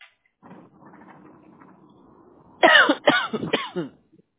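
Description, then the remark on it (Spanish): Three loud, harsh coughs from a person with a cough that won't stop burst out close together near the end, following a stretch of faint low background rumble. “Ay, disculpa que acá estoy yo con una tos, ay Dios mío, que no se me para.”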